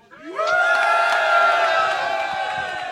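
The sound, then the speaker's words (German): A large live crowd at a recording erupts into loud, sustained cheering and whooping for a winner, swelling quickly and holding steady, with scattered clapping mixed into the roar. “Das ist dein Applaus”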